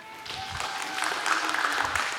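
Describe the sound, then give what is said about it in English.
Steady audience applause, a dense wash of many hands clapping that swells slightly and holds at a moderate level for a couple of seconds, with no voices standing out. “You can applaud for Grace.”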